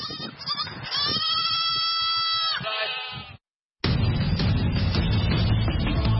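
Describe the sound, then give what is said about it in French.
Villagers' goats and sheep bleat loudly, several wavering cries overlapping for a few seconds, then a brief silence gives way to a dense, noisy wash of sound. “Pour beaucoup de ces villageois, ces chèvres et ces moutons apportent aussi un espoir de paix et de quiétude.”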